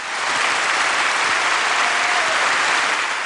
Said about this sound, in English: And the applause went up.